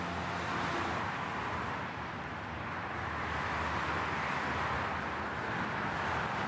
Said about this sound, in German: Ich überlege gerade, also der Frequenz der Autos nach zu urteilen, ist es entweder ist es wenig los auf der A40, es könnte aber auch eine Straße bei uns in Essen sein.